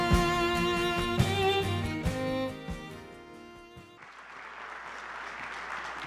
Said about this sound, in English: I was worried for a second that y'all weren't going to clap.